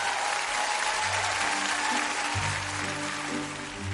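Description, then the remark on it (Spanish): An arena-style applause sound effect played for a prize winner: a big crowd applauds continuously, a dense wash of clapping and cheering that holds steady for the whole stretch, with a low hum of crowd noise beneath it. “Ahora está buscando un redoble de tambores, unos aplausos, pero de Palacio de los Deportes para J.”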